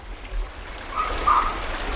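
A red fox in rut gives a couple of short, sharp barks in quick succession, fairly faint above a steady rushing background like running water or wind. The fox is right overhead, almost at the door of the hide where the recordist is hiding.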